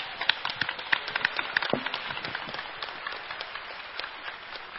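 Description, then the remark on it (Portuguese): Steady audience applause at a city council session during a vote, a dense patter of many hands clapping at moderate loudness, thinning slightly toward the end with no voices over it. “Peço por gentileza que, se tiverem motivos para aplaudir, aplaudam, mas para vaiar, por gentileza, não.”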